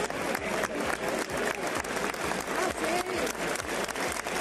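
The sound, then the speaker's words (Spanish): A crowd in the packed, standing Maestranza bullring in Seville, Spain, claps loudly and steadily to welcome emeritus king Juan Carlos I, accompanied by Infanta Elena, a dense wash of rapid overlapping hand claps with cheering voices and shouts rising through it. “Juan Carlos I ha sido recibido en Sevilla entre aplausos y vítores.”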